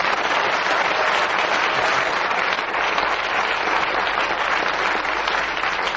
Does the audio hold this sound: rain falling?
no